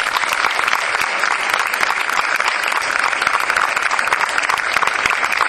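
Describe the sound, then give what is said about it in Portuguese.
A crowd applauds steadily at a fair, a dense, continuous patter of many hands clapping at an even loudness throughout, with no voices standing out. “Daí que eu vos pedia para ele, e nele incorporamos todo o resto que colaborou nesta feira, o nosso muito obrigado e uma salva de palmas.”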